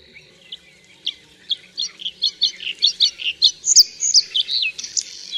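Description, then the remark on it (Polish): A bird sings a lively song from inside a willow thicket: sharp, scratchy syllables repeated at an even, steady pace, quickening into a higher, more tuneful cascade of whistled notes, loud and clear with no talking. “Każda zwrotka rozpoczyna się od ostrych, trzeszczących sylab wydawanych w równych odstępach w spokojnym tempie.”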